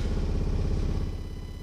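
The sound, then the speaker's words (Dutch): A washing machine on its spin cycle gives off a loud, steady low rumble with a rapid throbbing pulse, easing slightly toward the end. No voices are heard. “Als je nou denkt, wat ik nou hoor, dat is gewoon de wasmachine op die op centrifugeren staan.”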